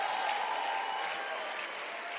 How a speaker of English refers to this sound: Why don't you stand to your feet and give the Lord a clap and a shout for amazing evangelistic efforts.